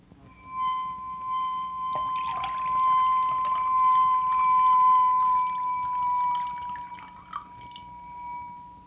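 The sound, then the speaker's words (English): Water trickles and splashes as it is poured into a glass goblet to tune its pitch down to match another goblet, with a steady ringing glass tone sustained underneath the whole time. Fairly quiet, with no voices. “Now, the pitch of the second glass is considerably higher, so I'll first tune it down by adding water until I get almost the same note as glass number one.”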